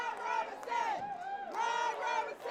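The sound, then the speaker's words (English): An excited crowd at the Lerner Theater cheers and whoops loudly and continuously after hearing that Roberson won the mayoral election, many high voices swelling together in sustained shouts, with a brief dip in the middle before the roar surges again. “The crowd at the Lerner Theater could not control their excitement after hearing that Roberson won the mayoral election.”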